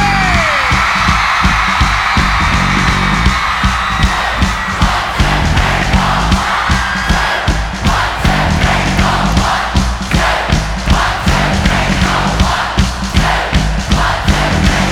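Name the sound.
concert crowd screaming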